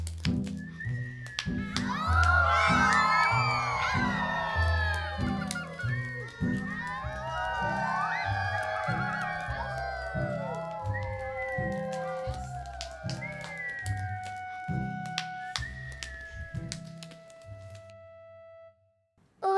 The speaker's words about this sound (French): C'est alors qu'ils entendirent hurler les loups.